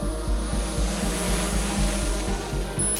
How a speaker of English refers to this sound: So in San Diego, in Chula Vista, we have it so that when you call 911, the first thing that happens is that a drone will take off from the police headquarters or a fire station, fly to the location of the incident.